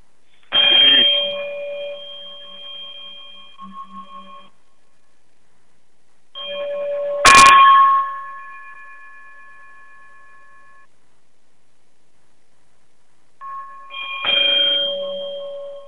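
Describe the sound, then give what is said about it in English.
Three bright chime strikes close a broadcast of the Tando Radio Show, ringing out with long, sustained tones, spaced several seconds apart, each one decaying slowly into silence. The middle strike lands with a sharp, loud attack. “Brother Braggs, if you would, if you don't mind chiming us out until we return tomorrow at 6 o'clock p.m. Eastern time for another broadcast of Tando Radio Show.”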